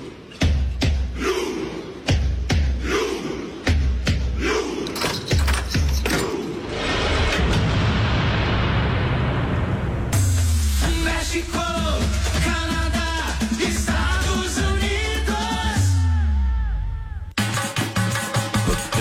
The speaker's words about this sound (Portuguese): Duelo, cavaleiros de um lado, os cavaleiros da rainha, e do outro os vikings, tudo isso com o canhão narrando.